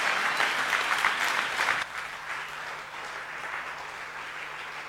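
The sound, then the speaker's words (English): A church audience claps steadily for a man being thanked. The applause is a dense, crackling wash, loud for the first couple of seconds, then drops to a softer, thinner patter that continues to the end. “Would you put your hands together and give him a huge, huge round of applause?”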